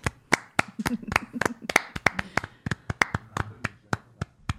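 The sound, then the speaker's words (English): Two people clapping together, a sparse patter of sharp, uneven hand claps lasting several seconds, thin rather than a full round of applause. “The applause sounds much less significant when there's only two of us, doesn't it?”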